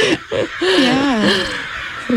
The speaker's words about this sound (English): Well, great. So those are crows.